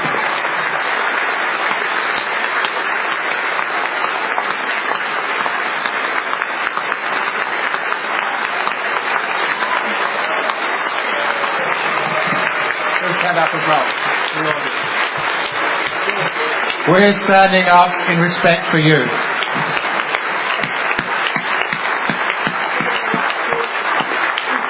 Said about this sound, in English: And so on behalf of the panel, may I please ask for a round of applause for all the people who presented